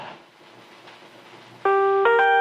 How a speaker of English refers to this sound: Ah, yes, those magic sounds of an answer phone, obviously. Anyway, moving swiftly onwards. Don't know what that was.